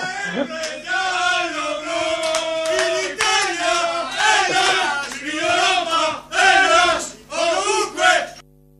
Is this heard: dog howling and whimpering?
no